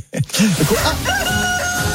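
A rooster crows loudly, a strained, drawn-out call that rises and then holds, with some clucking-like sounds just before it. No one speaks.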